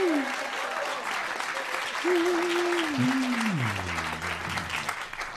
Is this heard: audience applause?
yes